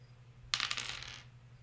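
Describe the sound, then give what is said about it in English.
Dice clatter across a hard table in a quick burst of sharp clicks and rattles as a D100 is rolled during a tabletop game, then tumble to a stop after about half a second, with a low hum underneath and no talking. “Next, let's roll on the treasure. Go ahead and give me a D100.”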